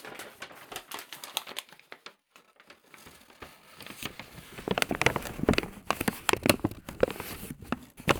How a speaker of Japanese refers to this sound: 豚ちゃんに紙袋をかぶせてあげて。